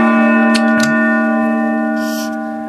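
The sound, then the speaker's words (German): A 50-year-old gong rings out loud, its rich metallic hum sustaining with many layered overtones and fading only slowly, with a few faint clicks and a soft rustle along the way. “Er hat einen Gong verdient.”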